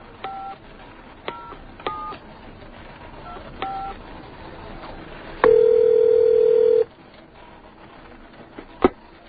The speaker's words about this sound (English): I'm going to make a phone call. You listen in and don't even breathe.